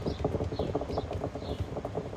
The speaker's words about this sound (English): Can you guys tap on the table? I heard a sound a little bit like that.